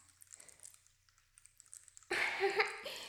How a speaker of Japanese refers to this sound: しっかり泡立ったこの炭酸シャンプーをお耳につけちゃいます。どう？どう？どんな感じかな。耳元で泡がはじける音、癒される？